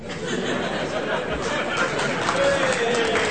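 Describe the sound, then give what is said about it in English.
An audience claps in a steady, dense wash of sound lasting a few seconds, with murmuring and a few chuckles from the crowd mixed in. “No, they were clapping your delivery”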